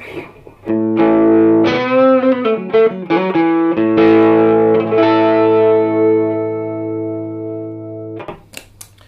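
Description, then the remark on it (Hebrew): An electric guitar run through a classic Tube Screamer TS-808 overdrive pedal plays a quick series of notes, then lets a chord ring out and slowly fade. A few faint clicks follow at the end, with no talking. “בואו ננסה רגע פדל ראשון, לא נגיד איזה, אחרי זה נהיה איזה.”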